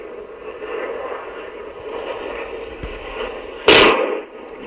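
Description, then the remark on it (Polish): A steady rushing, fluttering flap of a falling balloon runs for several seconds, then ends in a single sharp, loud explosion that quickly dies away. “Słychać łopot takiego spadającego balonu i ten właśnie wybuch.”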